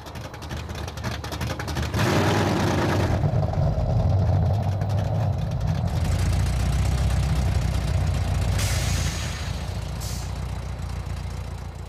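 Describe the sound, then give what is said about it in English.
A 1990 Chevy Corvette's Chevy 350 small block V8 engine, rated at 245 horsepower, idles with a deep, steady rumble, loud throughout, with brief surges of brighter hiss as it revs slightly. “Under the hood is a Chevy 350 small block engine with 245 horsepower”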